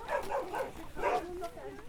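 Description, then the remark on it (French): A dog barks several times in quick succession, fairly loud, then lets out a brief higher whine as the barking trails off. “Parce qu'elle a un chien. Il est gentil.”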